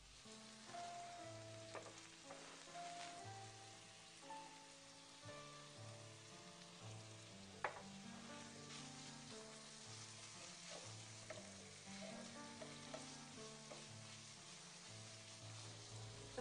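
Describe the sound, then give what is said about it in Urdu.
Minced meat with salt and chili sizzles steadily as it is fried in a hot pan while the back of a spoon slowly scrapes and spreads it evenly, the crackle continuous with occasional sharper clicks of utensil against metal. “اور پھر آہستہ آہستہ چمچے کی پشت سے قیمے کو یکساں طور پر پھیلا دیتے ہیں.”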